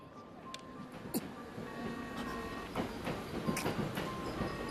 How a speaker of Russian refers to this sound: Прибывает поезд с внешней линии. Пожалуйста, не заступайте.